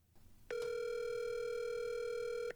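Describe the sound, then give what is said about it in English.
A single steady electronic ringback tone from an outgoing phone call to Elliot Kalin of the Flophouse, holding one clear buzzing pitch for about two seconds before cutting off, loud with no voices. “Let's see if we can get him on the phone.”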